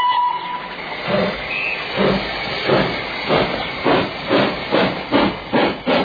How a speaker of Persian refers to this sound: بله این آرم سفر رادیویی برنامه عطر زندگی هست.